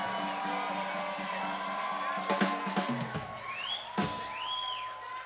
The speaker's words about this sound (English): Give yourselves a big round of applause and a big hoop and a holler. Thank you. Give it up.